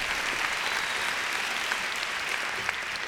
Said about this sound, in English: I wish you'd give him a big hand.